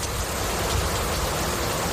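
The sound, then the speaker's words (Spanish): Steady, dense rain falls continuously at the entrance of a house, a broad hiss with soft patter of drops on a surface, even in loudness, with no voices. “Esto es lluvia, chicos.”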